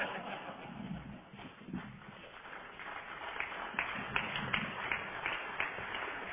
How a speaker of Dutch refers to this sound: Ik weet niet precies wat dat applaus betekent.